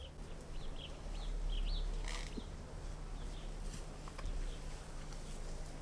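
Birds chirp and call in short bursts over a quiet outdoor background with a steady low hum; no one speaks.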